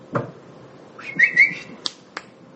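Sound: person whistling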